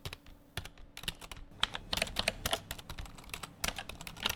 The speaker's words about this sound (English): Just a handful of people and real estate entities scattered across the city, sitting in front of computer screens, typing in bids.